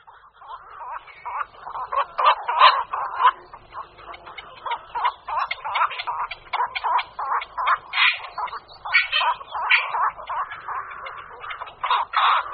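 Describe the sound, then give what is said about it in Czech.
Black-crowned night herons give harsh, croaking calls over and over, several birds overlapping in a busy, continuous chorus, with no other sounds around them. “Hnízdním prostředím kvakoše nočního jsou bažinaté a rybniční oblasti s křovitými či stromovými porosty ve vodě nebo v její bezprostřední blízkosti.”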